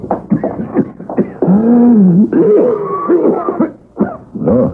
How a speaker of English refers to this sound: That's not a good sounding cough, brother.